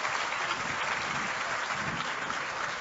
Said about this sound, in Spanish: Hoy la vida de los residentes de Hato del Yaque definitivamente es distinta. Vamos a darle un fuerte aplauso a esta comunidad.